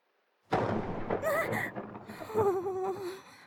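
thunder clap

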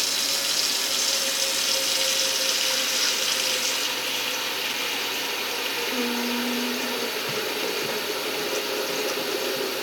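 tap water running

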